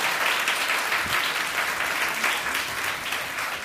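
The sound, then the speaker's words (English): A crowd applauds steadily to congratulate a man on his upcoming marriage, a dense wash of many hands clapping at an even loudness for several seconds without a break, no voices standing out. “You don't have to applaud yet, right?”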